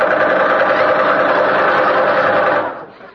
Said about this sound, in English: What do you want, one long kiss or 20 fast ones? I'll take the fast ones. Okay, brace yourself.